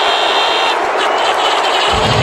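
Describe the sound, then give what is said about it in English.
A huge Philadelphia stadium crowd reacts, as the AFC champion New England Patriots are announced, with a loud, continuous roar, a dense wall of voices that stays steady and overwhelming for the full couple of seconds. “Tell by that crowd reaction, this is a Philadelphia crowd.”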